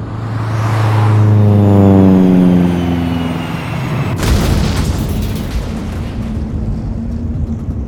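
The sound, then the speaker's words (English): A loud engine whine drops steadily in pitch as a plane dives, then a sudden booming explosion hits and leaves a heavy, crackling rumble behind. No voices. “Something's wrong. Hey, it's going down. The plane is going down.”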